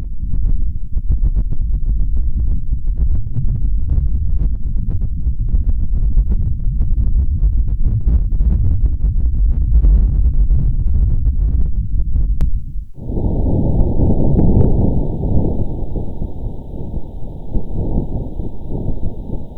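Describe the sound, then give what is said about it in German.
Wind on Mars recorded by the InSight lander's seismometer on the lander deck: a low, steady rumbling wind roar with faint irregular crackles runs for about thirteen seconds, then shifts abruptly to a brighter, band-limited hiss with a thin high tone above it. “Wir hören uns mal kurz die von InSight zur Erde übermittelten Töne an.”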